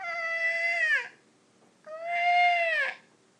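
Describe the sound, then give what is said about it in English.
A baby screams in two long, piercing wails, each about a second long, bright and strongly harmonic with the pitch sagging at the end, separated by a short silence. No one speaks. “There was a very, very loud scream.”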